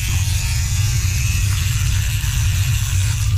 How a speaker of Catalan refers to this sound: Això pot ser una serra radial, tallant una rajola. Doncs jo espero que no et rentis les dents amb una com serra radial. És un raspall de dents.